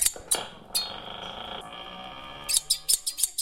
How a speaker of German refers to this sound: Der letzte Sound, das war eine große Schere.